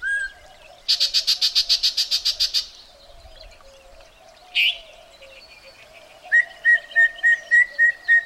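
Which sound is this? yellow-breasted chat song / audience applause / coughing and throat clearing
yellow-breasted chat song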